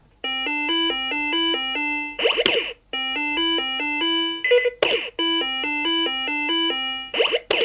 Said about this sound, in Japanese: 1、3ボタンからのシュートの見分け方は音でも識別できるようになっています。まっすぐ飛んできたものは通知音1、5ボタン経由で斜めに来たものは通知音2で知らせます。通知音が鳴って 0.5 秒以内に自分側のどれか適切なボタンを操作すれば、通知音3が鳴ってキャッチが決まります。